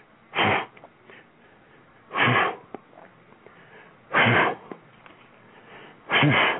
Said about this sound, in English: The heavy breaths of the first day of practice, any practice really, but this is spring and this is track. The footfalls, multi-cadence, side to side and back.